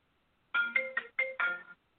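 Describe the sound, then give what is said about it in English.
A work phone's ringtone plays a quick melodic phrase of five bright tonal notes, loud and distinct, lasting about a second with no voices over it. “That was my work phone.”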